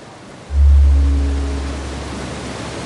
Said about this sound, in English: The river was in full spate. A dozen yards wide, it was crashing over tumbled rocks, foaming and frothing, drowning out almost any other sounds.